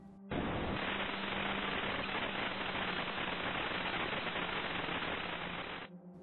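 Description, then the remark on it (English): A burst of loud, steady static from a TV just switched on with no signal hisses for nearly six seconds, a dense rushing noise with a faint low hum beneath it, starting and stopping abruptly with no voices. “I turned it on and there was static.”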